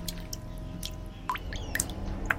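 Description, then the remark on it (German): Diluted blood drips down the sides of an object, plinking at irregular intervals, a few small, bright plopping sounds over a steady low background hum, quiet with no voices. “Das verdünnte Blut tropft an den Seiten herunter”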